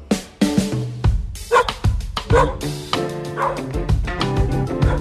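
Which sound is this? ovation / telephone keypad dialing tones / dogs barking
dogs barking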